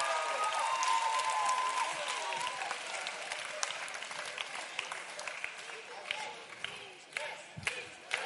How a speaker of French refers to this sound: Wouh, on l'applaudit. Est-ce qu'on peut?